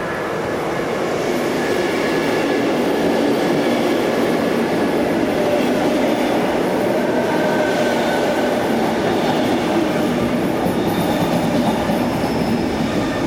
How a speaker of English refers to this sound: came to the station platforms and decided to capture sounds of the trains